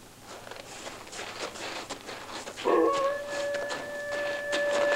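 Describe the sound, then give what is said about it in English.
A wolf's long, steady howl rises suddenly partway through and carries on to the end, loud, after a stretch of soft rustling and shuffling footsteps. “what's that blabbermouth sounding off for? Wolf, tell old Joe to look out for us.”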